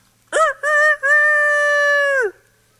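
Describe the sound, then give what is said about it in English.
A single rooster crows loudly in the early morning around home, a clipped opening note followed by a long, drawn-out call that holds steady before dropping off, with quiet before and after. “In the early morning silence around home, nature's alarm clock will usually let you know when it's time to get up.”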